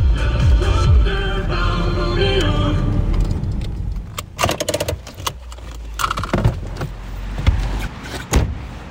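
A small EPA tractor car's engine drones steadily at low pitch as it is driven around with a reporter aboard, then a series of sharp clunks and rattles, like doors and windows being worked, punctuate the running motor.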